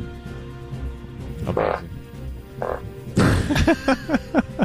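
A loud, close fart: two short raspy bursts, then a longer sputtering one that breaks into a rapid series of wet, croaky pops before trailing off.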